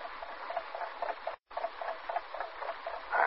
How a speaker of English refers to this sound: It ticks all right. Question, is it a dollar watch or is it it? It's a watch, probably.